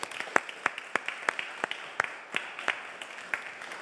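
An audience applauds steadily, with a dense wash of claps and a few sharper individual claps standing out every fraction of a second. No one speaks over it.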